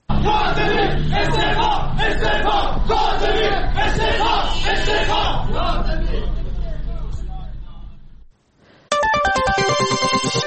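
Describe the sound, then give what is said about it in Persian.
A loud crowd of protesting workers chants together at a rally in Urmia, demanding the resignation of the municipality's director general of security, in steady, rhythmic bursts for about eight seconds, then fades out. After a brief pause, a bright electronic melody of stepping tones starts. “در این تجمع کارگران معترض همچنین خواستار استعفای مدیر کل حراست شهرداری ارومیه شدند.”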